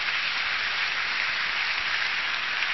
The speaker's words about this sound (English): Because my dad, yeah, you can applaud that, that's okay.